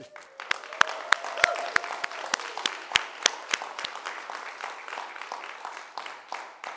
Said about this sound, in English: all you people, clap your hands and shout for joy.